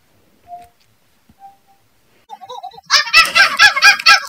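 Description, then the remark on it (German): A few faint short tones, then a string of rising hoots that break into loud, rapid, harsh monkey-like screeching and chattering, played back by the Cortana voice assistant as an imitation monkey call after being asked how the monkey goes. “Für die, die es sich nicht vorstellen können, führe ich das doch gerne mit meinem Lieblingstiergeräusch vor, nämlich mit dem Affen.”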